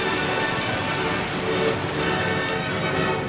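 Sea water surging and crashing over the lower rocks of a sea cave, heard from within, a dense, steady roar of hiss and splash that swells slightly midway, with no voices.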